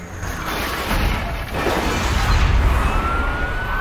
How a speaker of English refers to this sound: The bollards start rising again. Lucy drives over them, scraping the bottom of a car, but the police cars crash straight into them. Two more flip right over the crashed cars and land on the market stalls.